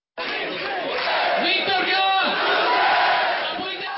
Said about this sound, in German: Meister, Meister, so skandierten die begeisterten Fans auf dem Pilsner Platz der Republik bis in die Nachtstunden. Sie warteten auf den Bus mit den besten Spielern überhaupt, wie sie überzeugt waren.